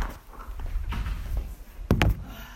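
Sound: door being closed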